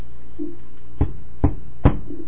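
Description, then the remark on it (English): Three heavy knocks on a door, fairly evenly spaced over about a second, each a dull, booming thud over a low steady hum, with no voices. “Knocking on the door.”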